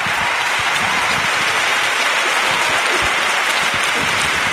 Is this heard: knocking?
no